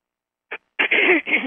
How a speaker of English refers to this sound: So if you're finding your throat, like I'm finding mine, clearing stuff, clear your throat and let it clear.